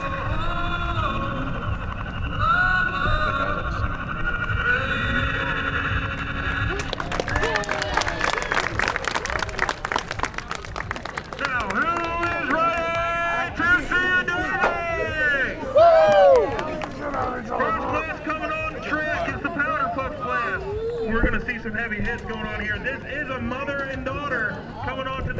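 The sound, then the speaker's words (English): A big demolition derby crowd at the Lucas County Fairgrounds on the outskirts of Toledo, Ohio, on a sultry Saturday afternoon at 5 o'clock, fills the air with steady cheering and babble, swelling into a louder, noisier roar partway through and staying busy and raucous to the end. “You heard that right. We're at a demo derby.”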